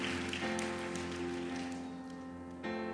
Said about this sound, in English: But what you really have special here is Jesus. It's Jesus. Let's give him one more great big hand clap of praise.